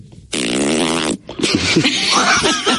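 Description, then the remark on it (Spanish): A voice imitates a zipper closing: a loud, buzzy rasp lasting under a second, then a brief pause and a second, rougher, more uneven zipping sound. “Una cremallera que es cuando se cierra una cremallera.”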